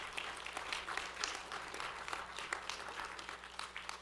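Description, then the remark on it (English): A church audience claps steadily during a Father's Day morning service, a dense, sustained patter of many hands at fairly even loudness throughout, with no voices standing out. “If you're going to clap, give the Lord the glory.”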